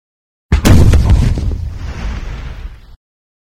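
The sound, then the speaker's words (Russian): A single muffled hand grenade explosion: a sudden deep boom with crackling debris, then a rumbling tail that fades out over about two seconds. “Приглушенный звук взрыва ручной гранаты поднял нас с Гобом одновременно.”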